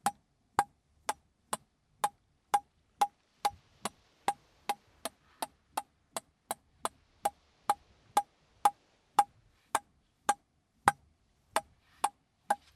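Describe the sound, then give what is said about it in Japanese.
Steady, sharp ticking like a clock's second hand, about two crisp clicks per second with a slightly hollow, mid-pitched knock, repeating evenly on its own with no talking. “秒針みたいな音っぽい感じでいいかもしんない。”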